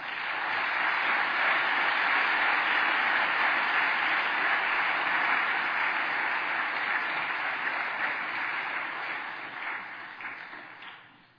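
An audience applauds steadily in a dense, sustained round of clapping lasting about ten seconds as a pastor is welcomed, holding loud and even before thinning out and fading at the end. No voices are heard.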